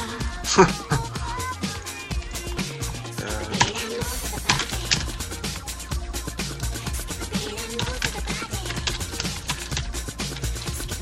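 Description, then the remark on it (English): Fast, continuous clicking of keys being typed on a keyboard, fairly loud, with a steady clattering rhythm over a low hum in the background. “Wonderful sound, that's typing.”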